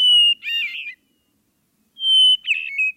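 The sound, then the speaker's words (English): A hermit thrush sings two phrases, each opening with a clear, sustained whistled note followed by a rapid fluttering cascade, separated by a second of silence; fairly loud. “It's actually the hermit thrush.”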